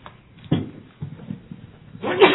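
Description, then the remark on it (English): A single sharp sneeze during a meeting with motions and votes bursts out at the end, louder than the low, muffled background sounds and brief thumps heard before it. “Bless you.”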